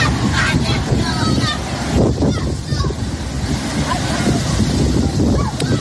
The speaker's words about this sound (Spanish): Así suena el agua arramplando con todo a su paso.